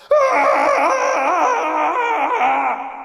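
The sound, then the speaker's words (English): A man's loud yell, sustained for about three seconds, as the story character Captain Cross yells into the dirt in rage; its pitch wavers like an anguished wail. The voice is alone, with no clear pounding or other sounds beneath it. “Captain Cross pounded on the ground and yelled into the dirt.”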